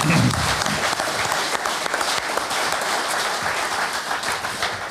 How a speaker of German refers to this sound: Sehr schön. Das ist ein Applaus wert, finde ich. Ja. Sehr schön.